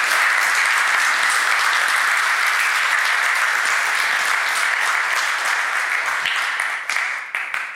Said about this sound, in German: Dann nochmal einen großen Applaus an Carsten.